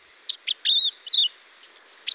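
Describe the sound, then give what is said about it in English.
A young white-throated sparrow, hatched the preceding summer, rehearses its song in the fall: a halting, disorganized series of thin, high whistles and short chirps, uneven in pitch and spacing, heard clear with no other sounds. “In the fall, listen for white-throated sparrows rehearsing their song.”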